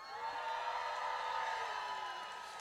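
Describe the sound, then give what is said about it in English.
A crowd at a protest march cheers and whoops in a sustained, dense roar that holds steady for a few seconds before easing slightly at the end, with no clear speech. “And you guys make such a beautiful noise. Let's hear it one more time.”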